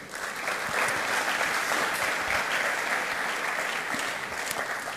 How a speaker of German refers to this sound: Vielen Dank an euch beide. Ein Applaus für die beiden.